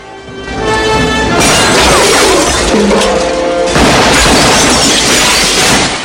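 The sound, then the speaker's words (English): Loud, dense crashing of wide office windows shattering, mixed with sharp bursts of gunfire fired through them, continuous for several seconds, with no talking. “They both step out to open fire through the wide office windows and duck for cover, somehow managing to avoid all the bullets as glass and smoke fills the air.”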